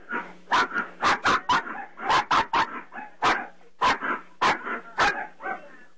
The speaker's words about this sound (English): Yeah, I'm sorry. My dogs are going crazy for some reason out there. I thought maybe the Aussie didn't fire it up. No. Something's going on out there in my other office. And my dogs are going crazy, so sorry about that,